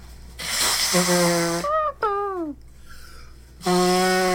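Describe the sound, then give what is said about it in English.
Someone blows their nose hard twice, each blast a breathy rush with a low honking buzz, and between them come a few squeaky, falling whistle-like sounds. “I'm gonna blow my nose.”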